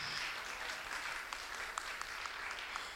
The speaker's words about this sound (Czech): pojďme ji přivítat potleskem.